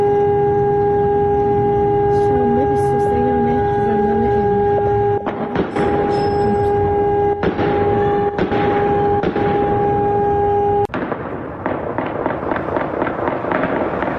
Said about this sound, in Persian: شامگاه شنبه ویدیوهایی در شبکه‌های اجتماعی منتشر شد که نشان می‌داد زندان اوین دوچار آتش‌سوزی گسترده‌ای شده و همچنین در این ویدیوها صدای چندین انفجار و تیراندازی‌های پیاپی نیز شنیده می‌شد.